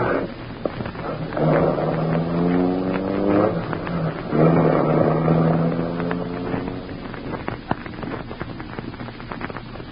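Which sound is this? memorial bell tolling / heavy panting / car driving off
car driving off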